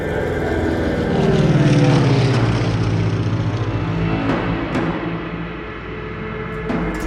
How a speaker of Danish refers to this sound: Langt ude kan han se små prikker, der suser hen over den lilla himmel. Bombefly. Og så de endnu mindre prikker, som flyene slipper under sig.